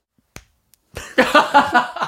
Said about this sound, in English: What was that? Was that a clap? I just punched the wall. I think I broke my giant doll-sized hands.